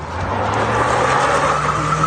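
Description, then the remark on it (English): A car engine roars steadily at high revs, loud, with a faint hint of tyre noise as a stolen car driven by young kids speeds through the streets of Derby; no voices are heard. “The sound of young kids speeding through the streets in stolen cars is something Derby residents are used to.”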